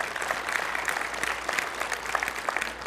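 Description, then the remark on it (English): An audience claps for the Lord, a steady, dense crackle of many hands at an even level that carries on throughout with no voices rising above it. “How about let's give the Lord a clap of them.”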